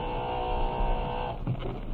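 A door buzzer gives one steady, harsh electric buzz lasting just over a second, then cuts off, leaving a low hum behind.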